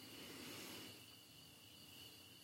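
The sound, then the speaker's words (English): Faint, steady chirping of crickets hums continuously in the background, a thin high trill over a quiet, hushed background with no voices. “The sound of the crickets in the background.”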